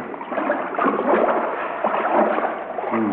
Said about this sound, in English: Well, here we go into the water.